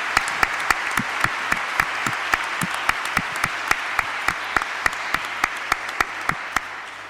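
Steady audience applause, a dense wash of many hands clapping with a few sharper individual claps standing out at a regular pace, sustained for several seconds at moderate loudness.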